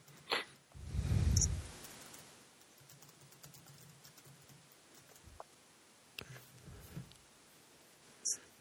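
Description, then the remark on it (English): Sparse, irregular keyboard taps click quietly, a handful of separate keystrokes spread over several seconds, with a brief low thump near the start and no talking. “Sorry, I'm typing.”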